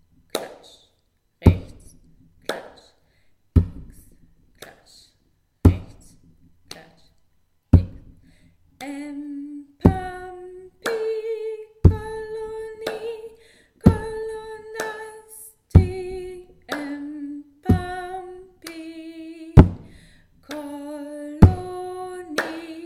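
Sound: rhythmic hand clapping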